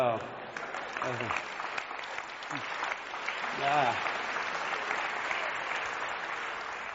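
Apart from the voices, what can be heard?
audience clapping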